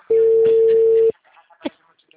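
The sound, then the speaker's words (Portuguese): A steady, loud single-pitch telephone call tone sounds for about a second, then stops; faint background murmurs follow, with a short soft click-like burst after it. “vou pôr meu telefone.”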